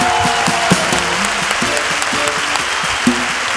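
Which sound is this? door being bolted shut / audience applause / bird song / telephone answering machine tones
audience applause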